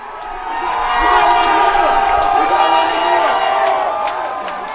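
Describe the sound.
A large crowd cheers loudly, a dense wash of many voices swelling quickly and holding steady, with scattered whoops and shouts rising above the roar before it eases slightly at the end.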